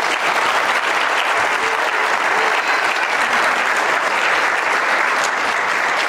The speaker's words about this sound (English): Come on up, guys. Give them a good hand clap as they come.